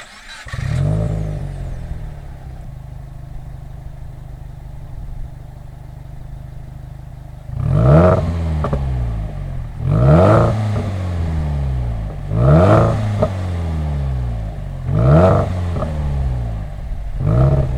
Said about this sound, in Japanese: レガシー B4TABL5、 マフラーはレーシングチタン GD788R。